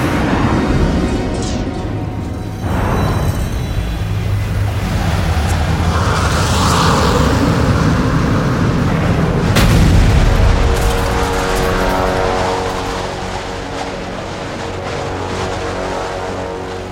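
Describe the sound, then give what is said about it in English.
A spacecraft's staged crash landing, causing only superficial damage: a loud, sustained engine roar and deep rumbling, broken by heavy booming impacts and crunching bursts, fading slightly toward the end with no voices. “Crash landing completed.”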